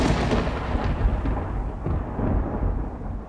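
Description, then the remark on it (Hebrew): Deep, continuous thunder rumbles loudly throughout, with rolling low-end booms and a few sharper cracks swelling in and out. No voices are heard. “רגע, רעמים? ברקים?”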